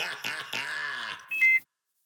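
A drawn-out vocal groan gives way to a single short, high-pitched electronic beep from an ankle monitor that had not been charged, loud, then silence.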